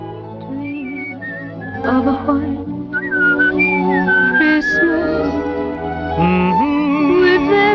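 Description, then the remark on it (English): A man whistles along to music, a wandering melody of bright sustained notes sliding up and down over a steady, fuller musical backing that continues throughout. “whistles along in the background.”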